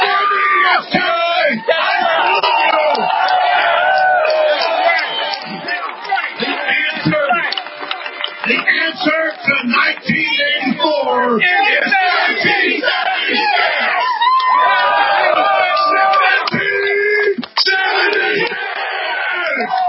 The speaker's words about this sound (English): So I'm going to tell you, I don't like it when you're cheering me coming up here. I want to salute all of you that are out here in defense of liberty.